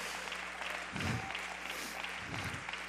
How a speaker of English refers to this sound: Come on, clap your hands, somebody.